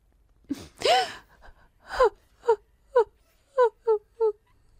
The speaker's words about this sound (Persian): بگو ببینم، چرا هر بار میام دیدنه داری گریه میکنی؟ ها؟